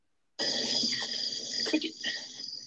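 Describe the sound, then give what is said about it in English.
Crickets chirp in a steady, continuous high-pitched trill that starts abruptly after a moment of silence and carries on at a fairly loud, even level, with no voices. “Cricket? Nobody understands cricket.”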